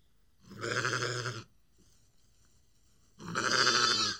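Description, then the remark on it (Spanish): Two drawn-out sheep bleats from grazing sheep, with a wavering, quavering tone, each lasting about a second and separated by a short quiet gap, fairly loud. “Las ovejas pastaban felices y Ana no tardó en aburrirse.”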